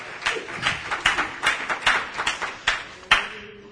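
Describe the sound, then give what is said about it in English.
An audience claps hands unto the Lord in praise, in a loose, uneven burst, with many overlapping sharp slaps at a quick, roughly steady pace and a few louder claps standing out near the end. “Oh, somebody clap their hands unto the Lord and give him praise.”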